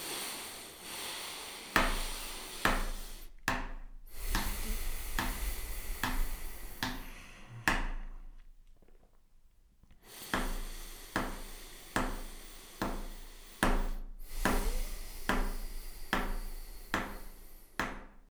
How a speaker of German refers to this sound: Ich habe jetzt mit meinem Stift einfach mitgeklopft.